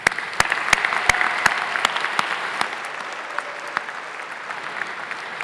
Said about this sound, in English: So many of you have done so much. Would everyone please join me in applauding the achievements, generosity, and dedication of this wonderful class?